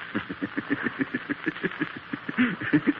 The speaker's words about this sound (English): Come on. There's a car coming. On your feet.